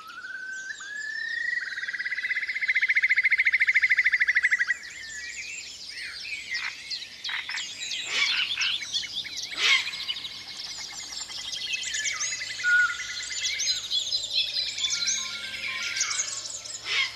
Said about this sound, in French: Il y a aussi des oiseaux.